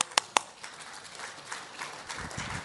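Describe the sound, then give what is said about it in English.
Two sharp hand claps ring out, followed by a soft, scattered patter of applause from an audience clapping for a volunteer being called up, staying fairly faint and diffuse, with no voices. “Would one of you mind coming up here? Give them a clap.”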